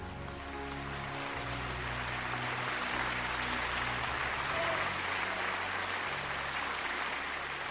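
Steady applause from a crowd, a dense rush of clapping that holds at an even level throughout, with a low tonal hum running underneath.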